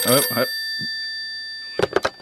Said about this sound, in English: Oh, hello, phone call. Hello.